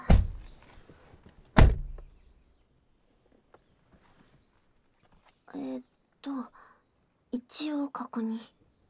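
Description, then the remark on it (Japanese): Two solid thuds of a car door shutting, a second apart, each with a short ringing decay, followed by quiet and then a few soft voices talking. “うん、ドアも閉まりそう。”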